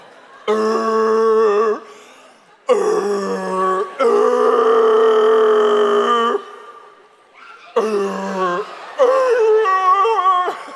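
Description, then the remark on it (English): A man's voice imitates a rooster crow in exaggerated slow motion: three loud, drawn-out bursts, the middle one longest, with low, groaning, wavering pitch and brief pauses between. “Can I just tell you, that's probably the loudest, longest rooster crow ever.”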